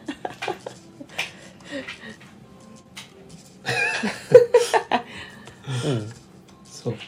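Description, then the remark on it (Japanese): A dog romps around noisily, with scrabbling, thumping and clattering bursts that come and go, growing busiest toward the middle, along with a few sharp vocal yips. “めっちゃ犬が暴れてますね。”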